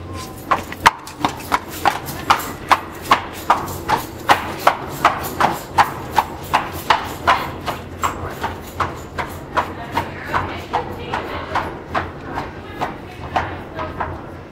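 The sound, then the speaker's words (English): A horse jogged out on a hard surface after a 30 to 60 second flexion of the left front lower limb during a lameness exam, sharp clip-clop hoof strikes repeating in a quick even rhythm throughout, clear over low background noise. “So what we do is we flex the lower limb for anywhere 30 to 60 seconds, and then we jog the horse out to see whether this may or may not exacerbate the lameness.”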